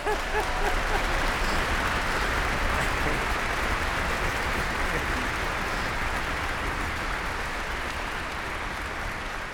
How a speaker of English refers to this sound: The reason is because in this 7-minute piece, they only play in the last 4 minutes, and it's all they do all afternoon. And they're very good, and I thought they should get some special applause.